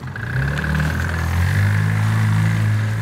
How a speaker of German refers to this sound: Moped-Führerschein machen, eines dieser Zweizylinder-Bonsai-Autos kaufen, Gas geben und los geht's.